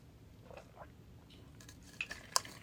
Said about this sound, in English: Hold on a second. I'm going to take a sip of water here so I can try to get rid of these hiccups.